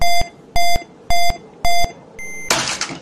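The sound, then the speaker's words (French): A clock radio alarm goes off at 6:15, beeping four times in a steady, evenly spaced rhythm, loud, then a fifth beep is cut short by a sudden burst of rough, crackling noise; the clock radio is slapped. “Et merde! Une bonne baffe sur le radio-réveil. 6h15.”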